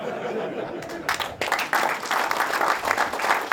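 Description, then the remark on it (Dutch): An audience bursts into loud applause as a person is called up to the front, building after a quieter first second into dense, sustained clapping with a few scattered cheers and chuckles mixed in. “Ja, dan kunnen nog heel veel mensen naar voren roepen, maar eigenlijk is er maar één die we nu naar voren kunnen roepen. En dat is Willem van Haregem op een keihard applaus.”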